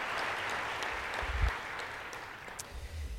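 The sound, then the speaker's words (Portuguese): A church audience applauds Jesus together in sustained, dense applause, a steady wash of many hands with a few sharper claps standing out, holding fairly level before easing slightly. “Você pode aplaudir a Jesus aí mais uma vez?”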